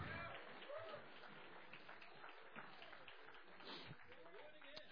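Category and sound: crowd, audience clapping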